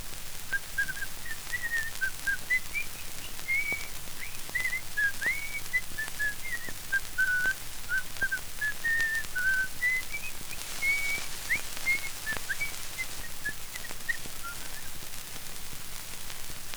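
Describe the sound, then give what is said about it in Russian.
A painter whistles a bright, bouncy tune nonstop while repainting a whole fence, the melody hopping up and down at a steady pace over a faint hiss of background noise. “И вдруг пришел маляр и стал ко дню 1 мая весь забор заново красить, весело насвистывая.”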